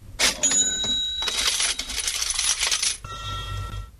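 Metal coins clatter and jingle in a busy, bright burst, with sharp ringing clinks as they drop and scatter, then a shorter, softer rattle settles at the end. No one speaks.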